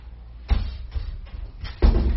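A door is pushed shut with a couple of dull thuds, the first light and the second heavier.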